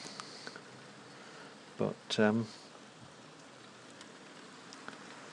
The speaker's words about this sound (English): But yeah, it's coming down a fair bit. And, oh, it's hail. It's hailing. Jolly good.